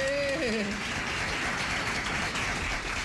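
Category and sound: crowd, applause sound effect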